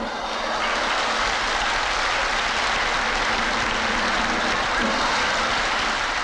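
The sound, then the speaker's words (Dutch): A circus audience applauds loudly and steadily in relief after a flying trapeze act by the group of Ferdinando Yard, a dense wash of clapping that holds at a constant level for several seconds with no voices standing out. “Dat het publiek reden heeft om zo opgelucht te reageren blijkt als we de tour in slow motion herhalen.”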